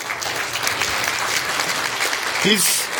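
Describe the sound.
A church audience claps steadily in a dense, continuous wash of applause lasting the whole few seconds as a guest is invited up to speak, with a brief voice rising through it near the end.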